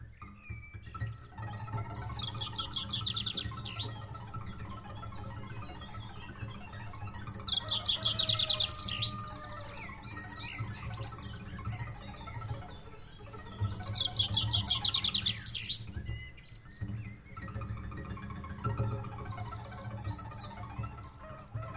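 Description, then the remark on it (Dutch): Birds chirp and trill in a busy dawn chorus at about 5 a.m., several calls overlapping, with brighter bursts of song rising and falling over a low, steady background rumble. No one speaks. “En je oren openstellen voor het kraaien van de haan of het geluid van de vogels om 5 uur 's morgens.”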